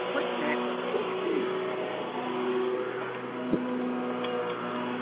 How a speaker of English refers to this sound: Somebody's running a vacuum. Can you mute your phone? Maybe they can't hear me because they're running a vacuum. And what's the beeping sound? Probably the vacuum.